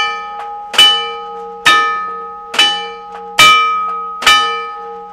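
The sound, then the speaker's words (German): A railway block bell rings out a signal code from another station, with five loud metallic strikes at roughly even intervals, each ringing on with a lingering tone, plus fainter taps between them. “Und das Signal von Fresh aus, das klingt ganz anders.”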